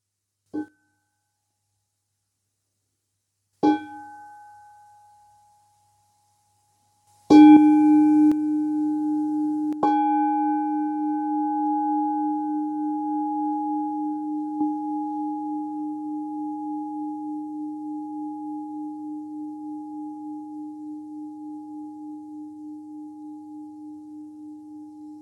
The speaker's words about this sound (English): As we're closing this meditation with the sound of the bell.